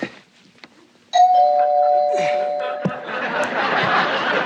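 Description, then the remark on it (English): A doorbell chimes loudly with sustained ringing tones as a guest arrives, followed by a burst of muffled voices and commotion as people hurry to hide. “Get the door”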